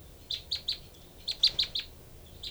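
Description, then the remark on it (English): Two birds, one of them a female, trade short, high chirps: a quick run of three notes, a pause, then an answering burst of four or five, with one more chirp starting at the end. No one speaks. “3 and 4, then 3 and 5 responding.”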